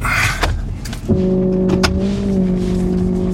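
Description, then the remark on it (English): An old repo tow truck engine runs, a rough rumble that settles into a steady, droning idle hum after a brief clunk, with a few faint rattles along the way, in a four-acre auto yard on dusty gravel in Sparks, Nevada, just outside Reno. “This truck's one of the older ones we have, so it doesn't... She don't sound the best.”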